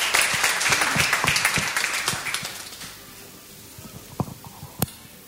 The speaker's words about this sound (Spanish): Gracias. Fuertes aplausos a la profesora